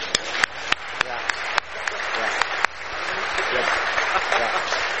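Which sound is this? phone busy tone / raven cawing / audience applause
audience applause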